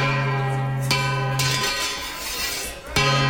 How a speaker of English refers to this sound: That's so much better. That's what a gong's supposed to sound like